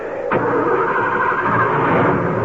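A car engine, just after the car crashed into boulders, cranks and catches with a sharp onset, then settles into a steady, loud mid-pitched running hum that continues to the end, with no voices.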